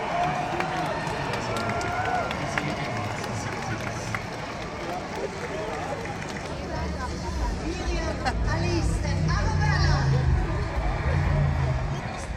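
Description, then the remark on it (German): A dense outdoor crowd at the ESC (Eurovision Song Contest) public viewing on the Rathausplatz in Vienna murmurs continuously, many overlapping voices blending into a steady hubbub, with a low rumble swelling toward the end as the babble grows slightly louder. “Nach einer feinen Nacht auf dem berühmten Naschmarkt wagen wir uns wieder zum Public Viewing auf dem Rathausplatz.”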